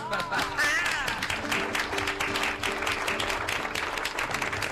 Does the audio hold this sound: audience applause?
yes